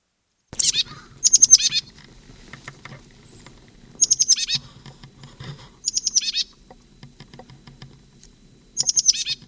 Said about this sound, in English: 32, upper end of Moline Gully, birds foraging in live oak.